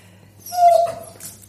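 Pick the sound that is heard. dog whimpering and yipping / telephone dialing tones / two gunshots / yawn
dog whimpering and yipping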